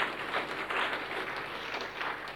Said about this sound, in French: Il faut applaudir.